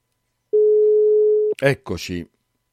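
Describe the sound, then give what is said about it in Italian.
A single steady telephone ringing tone hums for about a second on an outgoing call, then cuts off as a voice starts speaking right after. “spero che tu risponderai a questa chiamata.”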